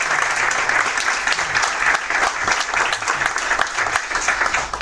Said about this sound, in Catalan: Bueno, moltes gràcies i moltes felicitats perquè és un signe d'adaptació que parli aquest català tan ben parlat, així que fora aplaudirem de nou perquè...